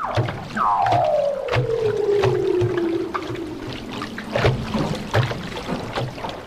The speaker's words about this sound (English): For the first time I heard this noise the next day, and I thought we all presumed, oh, it's a whale or something, but it were leopard seals playing around the hull, and they make the most intriguing sound, the most amazing, beautiful song.